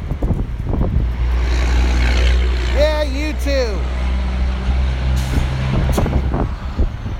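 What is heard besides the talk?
passing road traffic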